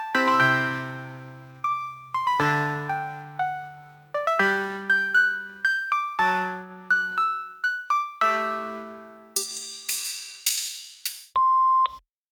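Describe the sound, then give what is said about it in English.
A run of bright electronic tones plays in quick, melodic succession, then ends with one steady, sustained answering machine beep. No one speaks. “Please generate your message after the beep.”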